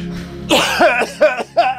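throat clearing

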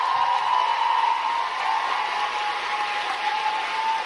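audience applause

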